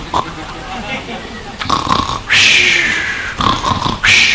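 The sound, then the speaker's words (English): A person imitates snoring with their voice: a few rough, rasping snorts building to two loud, drawn-out grating bursts, each about a second long, with brief pauses between them. “This is snoring. No, snoring.”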